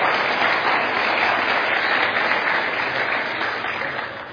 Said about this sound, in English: Let's give Jesus an applause.